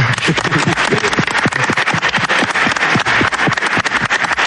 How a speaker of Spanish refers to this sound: Aplauso para el canoso.